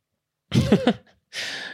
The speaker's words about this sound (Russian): Дочь кашляет, и это мне мешает.